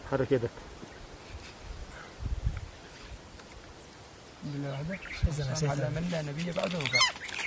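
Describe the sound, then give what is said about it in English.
Loud, harsh squawking calls, like a goose honking, arrive in a drawn-out burst in the latter half, a person's impression of a bird that squawked loudly as an ISIS member recorded his allegiance video, with quieter murmuring and rustling before. “this bird nearby would start squawking so loud”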